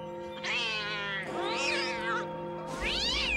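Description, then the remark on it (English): A black cat lets out three loud, drawn-out yowling meows in quick succession, with no one speaking. “the black cat, runs towards them.”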